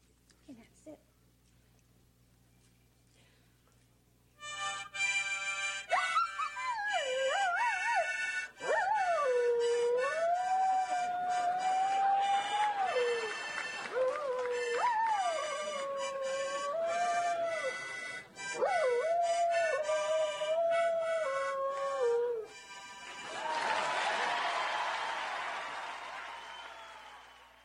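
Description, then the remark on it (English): A large Shetland sheepdog howls in long, wavering, sliding tones, singing along to steady harmonica chords for about eighteen seconds, loud, followed by a burst of noisy applause or laughter. “Okay, and the dog sings, obviously, to your accompaniment. Only to the harmonica.”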